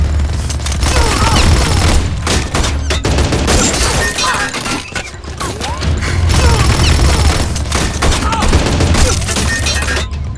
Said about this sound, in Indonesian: Terdengar suara letusan senjata yang membuat terkejut para gerilyawan karena disangka tembakan dari kawan sendiri, namun ternyata dari pasukan Belanda.